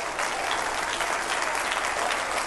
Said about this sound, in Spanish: dile un aplauso fuerte al Señor.